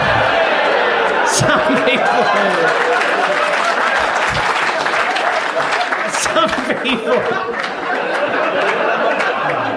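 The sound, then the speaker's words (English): A loud, steady wash of audience applause fills the whole stretch, dense, with scattered chuckles and crowd murmur mixed in beneath the clapping. “The catchphrase is not yet over. Do not applaud until the end.”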